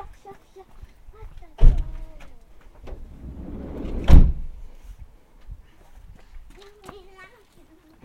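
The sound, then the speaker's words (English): A door is shut with a loud thud, followed a couple of seconds later by a second heavy bang, while faint voices murmur quietly in the background. “Can I shut the door?”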